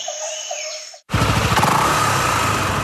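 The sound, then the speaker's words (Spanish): Brief bird chirps give way abruptly to a loud, steady Honda PCX160 ABS motor scooter engine running, its low rumble and buzz continuing without a break. “Nueva Honda PCX160 ABS, una motocicleta con tecnología japonesa de última generación que llega al país para imponer un nuevo movimiento en la ciudad.”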